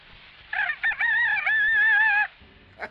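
A single rooster crows loudly in a French razor advertisement: a drawn-out cock-a-doodle-doo with a stuttering start and a long wavering finish, about two seconds long, over faint background noise.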